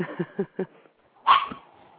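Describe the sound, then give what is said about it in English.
A pet Chihuahua barks: three quick, high yaps in a steady rhythm, a brief pause, then a louder, sharper bark that trails into a thin whine. No voices are heard. “It's my wife's. It's a Chihuahua.”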